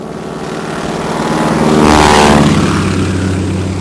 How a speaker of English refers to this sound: I hold on as tight as I can, riding as the plane flies. What's wrong with the world? After all the aggravation I went through just stealing this crop duster, you would think they would give me one that would fly right.